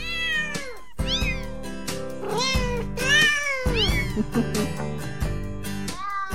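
Cat meows pitched into the tune of a Christmas song, rising and falling over a steady musical backing with bass and chords, loud, one sung-like meow after another.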